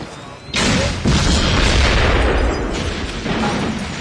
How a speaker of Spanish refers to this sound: Tuvo que pasar por tiroteos y explosiones. La explosión de la casa realmente daba miedo, porque iban a explotar ventanas y puertas.